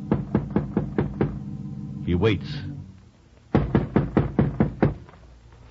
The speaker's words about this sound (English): Roy rides to the Gary Buell home a few miles from town, timing himself to arrive at exactly 2:00. He dismounts, looks about. The house seems deserted, foreboding. Roy goes to the front door warily and knocks.